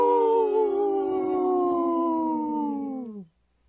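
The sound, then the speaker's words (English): A wolf lets out a single long howl, steady and loud, sliding slowly downward in pitch for about three seconds before breaking off abruptly into silence. “supported by Howling for Wolves, protecting wolves for future generations. Howl!”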